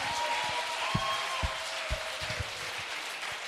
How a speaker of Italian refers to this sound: Se per Cristo, dallo forte questo applauso.